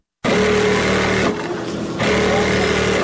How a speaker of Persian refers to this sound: اینجا صنف کلان خیاطی است که دختران دور یک میز کلان با ماشین‌های برقی خیاطی لباس می‌دوزند. همه این خیاطان تازه‌کار دانش آموزان مکتب هستند و از روی ناگزیری به این حرفه روی آوردند.